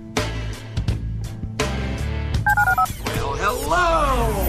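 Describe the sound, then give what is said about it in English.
Telephone keypad dialing tones: a quick, evenly spaced run of about four clear dual-tone beeps, set between dense, loud sound before and warbling, sweeping tones after. “dial 713-780-ESPN. Dial the phone.”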